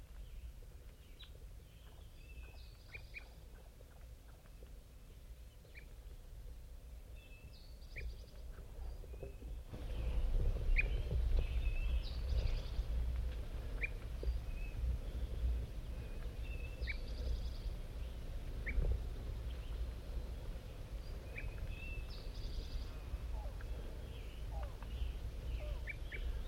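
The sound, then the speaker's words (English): A flock of about six wild birds sitting in an oak call: scattered short, high chirps and clucks repeat irregularly over a steady low rumble that grows louder partway through. “Here come the wild birds. Flock of five.”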